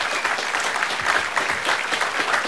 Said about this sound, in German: Und ja, Applaus